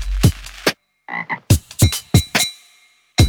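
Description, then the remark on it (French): A frog croaks loudly, about seven harsh, throaty bursts in an uneven rhythm, with a softer warbling call partway through and no talking. “Et maintenant, la magnifique histoire des CE1, les deux grenouilles à grande bouche.”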